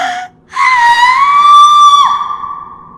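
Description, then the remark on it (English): A brief cry, a short pause, then a loud, sustained agonized scream from a woman as a scarf soaked in holy water is pressed against her forehead, lasting over a second before its pitch drops and it fades into a trailing wail. “This bone-crushing scream comes out of Mary as you do that, and she seems to faint from the pain into your arms.”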